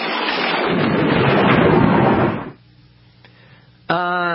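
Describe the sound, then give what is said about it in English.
A loud, crackling lightning-bolt thunderclap sound effect bursts out and rumbles for a couple of seconds before cutting off into near silence, then a voice begins speaking at the very end. “And this is the lightning bolt effect was added.”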